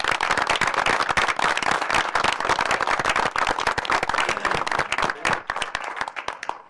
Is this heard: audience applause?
yes